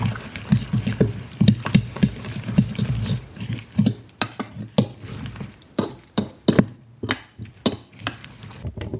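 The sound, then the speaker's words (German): A whisk beats rapidly against a bowl, mixing herbs into a mixture, a steady run of clicking taps that grow sharper and more spaced toward the end, with no talking. “Dann nochmal verquirlen, dass sich das alles gut vermischt.”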